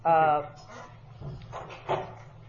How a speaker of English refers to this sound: We might want to close that door. Thanks.